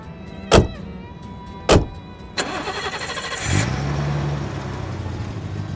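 Two sharp thumps like car doors shutting, then the engine of Olivia's big BMW in a station car park cranks into life and revs up, settling into a steady drone as the car pulls away, with no talking.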